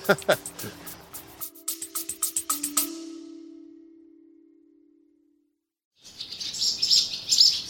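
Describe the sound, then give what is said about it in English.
Swallows chirping as they fly into a large barn at High Ash Farm to feed their four young: a burst of rapid clicks and a low fading hum give way, after a brief hush, to dense, high-pitched twittering that rises in loudness. “Swallows flying into one of the large barns at High Ash Farm, feeding their young.”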